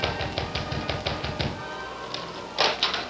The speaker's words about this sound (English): the young sailor rapped on the door of the Stevens home